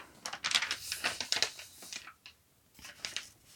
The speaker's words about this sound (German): So, ich muss mal einmal umblättern.